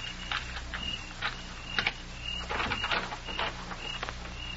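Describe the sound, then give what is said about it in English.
A door is worked open: a series of short clicks and rattling knocks, a sharp double click partway through, then a scraping creak, all over a steady low hum with no talking. “I'll open the door.”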